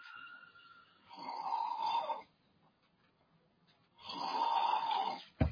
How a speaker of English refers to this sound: You hear my son's cutting logs in the background. He's snoring really loud this morning.